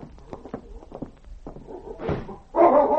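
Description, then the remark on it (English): A stretch of soft knocks and thumps like footsteps and a door moving, then near the end a tracking dog lets out a loud, eager bark as it picks up a scent and heads for a mine. No one speaks. “With an eager bark, he headed straight for the mine, and then paused at the mouth of the mine tunnel to wait for his master.”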